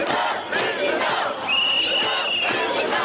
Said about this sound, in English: Traffic comes to a halt in the financial district as rallying crowds swamp the streets in the biggest anti-Wall Street demonstration since the U.S. was hit by an economic crisis.